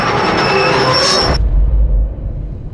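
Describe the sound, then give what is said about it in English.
A loud, shrill steam whistle of an express train and its screeching brakes ring out over heavy rumbling for about a second and a half, then cut off abruptly, leaving a deep, rolling rumble. “He hears the steam whistle of the express and the desperate screeching of brakes.”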